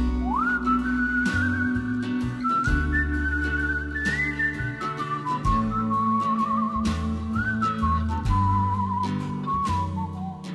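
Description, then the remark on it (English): A clear, sustained whistled melody by a male singer-songwriter glides and slides between notes over a full band backing with steady bass and drums, continuing for about ten seconds with no talking. “So I am a lover of the whistle. Is that you?”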